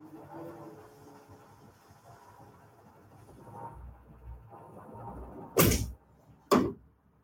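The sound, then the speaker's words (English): A door shuts with two sharp, loud knocks close together near the end, following several seconds of faint room rumble and background noise. “can I check out and go close the door real quick?”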